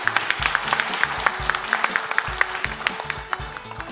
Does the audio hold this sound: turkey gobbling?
no